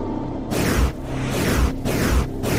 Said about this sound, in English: And that whoosh sound is something rotating. I'll tell you that much.